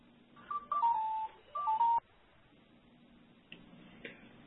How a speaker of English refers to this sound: Sorry, my phone was ringing at the same time you asked that.